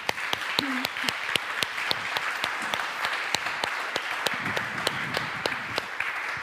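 An audience applauds warmly to welcome a guest, steadily throughout, with dense, overlapping clapping and some sharp individual claps standing out. Faint voices murmur beneath it.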